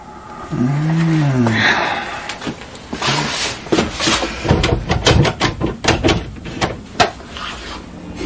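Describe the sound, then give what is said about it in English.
A door latched by a hook on the inside is struck and shoved repeatedly, a series of loud, irregular bangs and rattling thuds, preceded by a brief strained, groaning vocal sound, until it smashes open on the fifth try. “He smashed the door open on his fifth try.”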